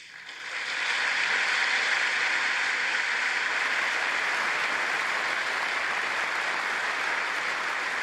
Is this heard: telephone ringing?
no